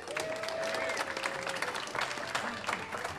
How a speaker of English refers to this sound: And an additional and equally heartfelt round of applause for Al Pettaway on sound.